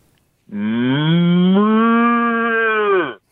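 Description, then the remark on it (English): A single long, loud cow moo lasting about two and a half seconds, a deep, steady, rich bellow that rises slightly at the start and tapers off at the end, with no talking. “Give me an old cow, yeah.”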